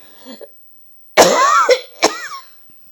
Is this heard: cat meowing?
no